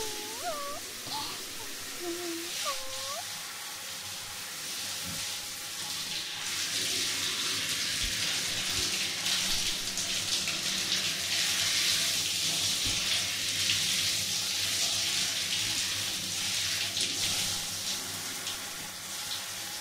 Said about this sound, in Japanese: じゃ、シャワー流すよ。